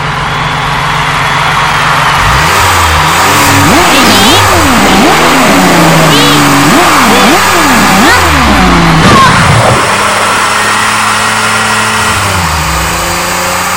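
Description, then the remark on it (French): A car fitted with a DeLorean engine revs hard again and again, its pitch rising and falling in quick repeated surges, loud, before settling into a steady idle near the end. “J'ai mis un moteur de DeLorean, ça peut que fonctionner, tu verras.”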